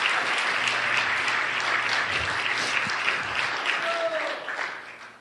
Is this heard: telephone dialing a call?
no